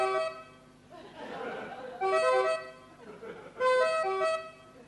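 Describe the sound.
A voice imitates a European two-tone siren, sliding between a higher and lower pitch in a sung, lyrical pattern, repeated three times with short breathy pauses between phrases.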